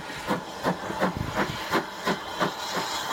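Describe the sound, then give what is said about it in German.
A steam locomotive hisses steadily while being recoupled at a station to the front of an observation car, with rhythmic puffs of steam bursting out roughly three times a second over a constant background whoosh. No one speaks. “Spannender war darum fast die Umkoppelung der Lokomotive, die hier stattfand.”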